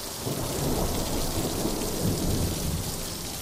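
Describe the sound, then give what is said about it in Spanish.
Heavy torrential rain pours down steadily in a dense, hissing wash in Zagora, Greece, in 2023, with low rumbles of thunder rolling underneath throughout. No voices, just the continuous roar of the storm. “Y como esto va de extremos, Grecia es también quien se llevó las mayores lluvias torrenciales en Europa en 2023.”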